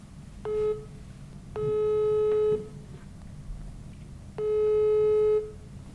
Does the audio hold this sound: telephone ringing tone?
yes